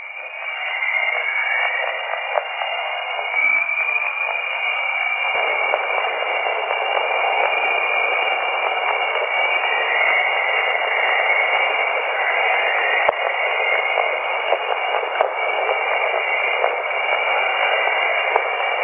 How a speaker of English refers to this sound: which we can turn that radio emission into sound, and this is something called the Jovian chorus, and it's supposed to sound a bit like the dawn chorus, you know, all the birds and stuff twittering as dawn approaches.